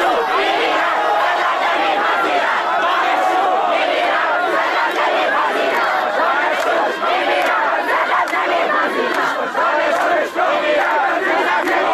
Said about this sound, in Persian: شروع کردن به اعتراض و بعد از مدت ها شعارهای اینطوری دوباره توی دانشگاه شنیده شد